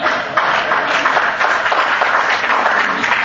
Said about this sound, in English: Applaud. Let me not hold you back if you want to applaud.